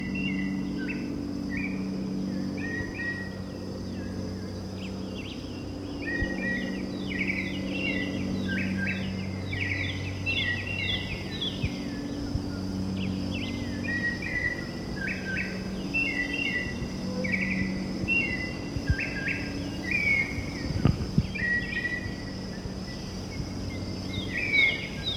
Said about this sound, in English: Okay, confirmed. This is the white chin thrush that's been calling. That's a very mockingbird quality.